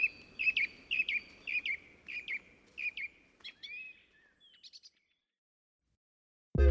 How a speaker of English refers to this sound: Anyone who's walked through a forest or just gotten up at sunrise knows that the feathered bunch makes quite a racket. But now we know what all the fuss is about. Next, what birds are really saying to each other.